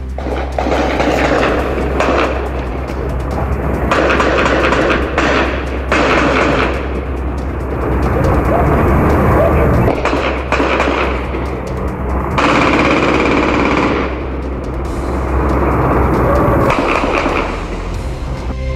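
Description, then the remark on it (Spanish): Sustained bursts of high-powered automatic gunfire from a nighttime shootout in the commune of Maipú, recorded by neighbours, crackle in rapid volleys, some louder than others, with brief pauses between barrages over a steady low rumble. “Creo que escuchemos parte del ambiente grabado por los propios vecinos en torno a esta balacera registrada anoche en la comuna de Maipú.”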